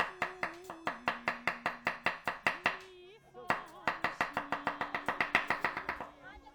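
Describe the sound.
Rapid, steady knife chops of vegetables on a cutting board, crisp, with a brief pause midway before the rhythm resumes, over a soft sustained voice-like tone.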